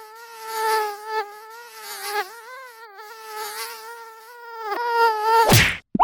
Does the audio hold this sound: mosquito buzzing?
yes